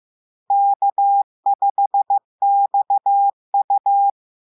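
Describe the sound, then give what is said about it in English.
A clean, steady Morse code tone spells out the amateur radio call sign K5XU (Kilo 5 X-ray Uniform) in four crisp groups of dots and dashes, clear, with no other sound around it. “In the mid-90s, when we were given the opportunity to choose our own custom call sign, I traded WB5ADC for K5XU, Kilo 5 X-ray Uniform, because it had a wonderful sound when transmitted in Morse code.”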